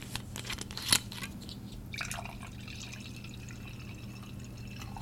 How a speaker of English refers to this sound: And before we get started, I have a little ASMR for you guys. I was waiting to pour my glass of wine until I started recording because I thought it would sound cool. So here we go. Okay. I only got one shot of this.